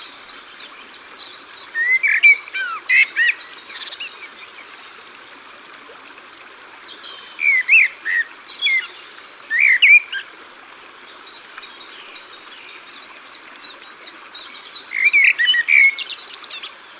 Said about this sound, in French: Non, je préfère le merle noir.